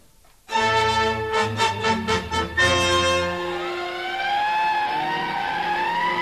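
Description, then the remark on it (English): Fire engine sirens sound as the engines evacuate from a wildfire in Latigo Canyon: a burst of loud, pulsing horn blasts gives way to a steady wailing siren that slowly rises and falls in pitch, with no voices. “The engines are evacuating now.”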